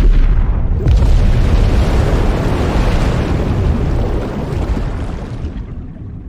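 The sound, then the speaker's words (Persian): A massive explosion over the sea booms out loud, its deep rumbling roar filling the air for several seconds before slowly fading into a low, lingering rumble. “صدای مهیب انفجار بر روی دریا تنین انداز شد.”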